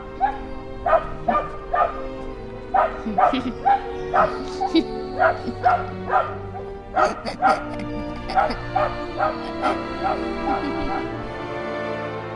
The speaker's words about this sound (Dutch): Ja, maar waarom blijft die hond huilen? Ja, er is iets met die hond.